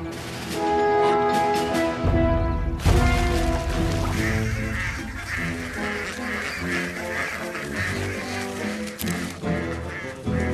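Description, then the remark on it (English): Ducks quack loudly and almost continuously, a busy chorus of nasal calls overlapping for about ten seconds with no talking. “And I think I've figured out what ducks love more than ponds.”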